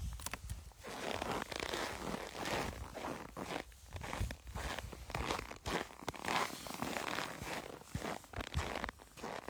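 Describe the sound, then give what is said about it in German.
Footsteps crunching on very cold snow at minus 40 degrees, a steady run of sharp, brittle crunches with a glassy, crackling texture, like walking on broken glass. No talking. “Also schon, wenn du draufläufst, klingt er so wie gebrochenes Glas, als würdest du auf Glasscherben gehen.”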